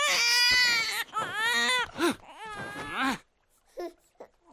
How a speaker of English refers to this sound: Bellyache and botheration, the bellows on that babe! Pipe down!